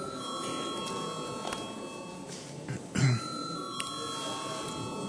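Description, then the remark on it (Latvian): A chairman's bell rings steadily for about five seconds before a parliamentary vote on a proposal, a sustained metallic ringing with bright high overtones, broken once midway by a short cough. “Paldies, lūdzu zvanu.”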